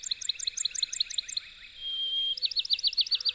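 A Bachman's sparrow (Pinewoods Sparrow) sings: a quick series of repeated chirping notes, then one long pure whistle, then another rapid run of bright, rolling notes, with no voices.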